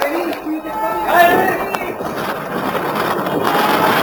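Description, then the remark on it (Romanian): Floodwater rushes in after the gallery under a pond collapses, sloshing and churning steadily throughout, a dense wash of splashing that rises to a fuller surge around the middle, with brief voiced sounds mixed in during the first second. “Nu e lucru curat, dar parcă se aude un clipoce ciudat. Ia uite, apă, e inundație, să fugim!”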